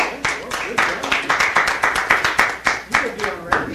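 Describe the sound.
A short run of hand clapping at a meeting as the day's speaker is introduced, around fifteen sharp, crisp claps in a steady, fairly quick rhythm, moderately loud, with a faint murmur of voices underneath.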